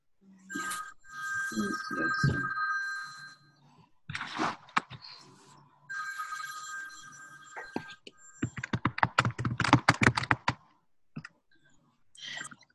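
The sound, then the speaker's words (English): A man's phone rings in two sustained electronic bursts with a pause between, followed by a quick run of sharp clicks like keys being tapped. “His phone is ringing.”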